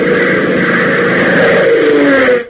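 A twin-engine C-47 transport plane drones in, arriving at Lakeville Airport, with a loud, steady, throbbing engine roar whose pitch sags slightly toward the end before cutting off abruptly. No voices are heard.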